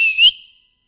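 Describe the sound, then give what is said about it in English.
A single short, bright whistle rising slightly in pitch, sounding clear, then fading out quickly with no talking. “There, I can imagine the Lord whistling.”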